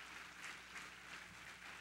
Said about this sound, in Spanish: Pero si le va a dar ese aplauso a Cristo, déselo bien dado.